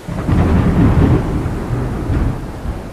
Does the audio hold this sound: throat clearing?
no